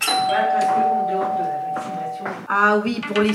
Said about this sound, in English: The doorbell and the phones have been ringing nonstop in this Paris doctor's office as people clamor to get the vaccine.